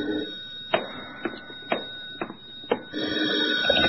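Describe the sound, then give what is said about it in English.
A telephone rings in hotel room 655 in a quick series of sharp, evenly spaced bursts, about five in a row, over a steady background hum with no one speaking. “But even as I started to open my door, the phone rang.”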